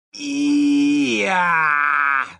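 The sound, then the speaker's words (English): A voice imitates a vampire victim's moaning scream: one long, loud vocalization that starts as a low groan, then slides upward into a strained, higher wail, held for about two seconds with no other sound. “They were more apt to scream in long strings of repeated E's and Y's and G's, making sounds.”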